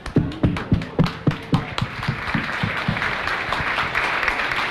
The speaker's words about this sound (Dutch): En ik wil graag iedereen daar alvast een hartelijk applaus op vragen... voor de prachtige prestaties van de mensen die op dit moment over de finish zijn.